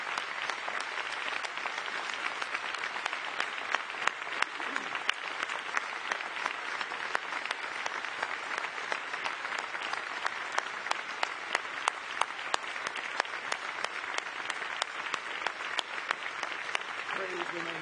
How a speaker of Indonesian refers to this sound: Let's give them all a big hand. Mari kita berikan tepuk tangan yang meriah pada mereka semua.